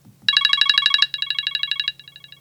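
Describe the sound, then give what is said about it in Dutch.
A phone ringtone of rapid, bright electronic pulses repeating in quick succession, arriving in three bursts that each grow quieter, with no voices. “Baken.”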